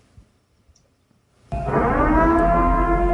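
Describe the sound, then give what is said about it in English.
After a moment of near silence, a civil defense siren suddenly blares in, loud, holding a steady, harmonically rich wail to the end. “That is the commencement of the annual purge.”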